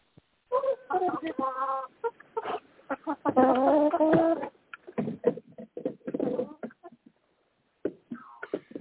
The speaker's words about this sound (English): Okay, it sounds like somebody's taking care of their chickens.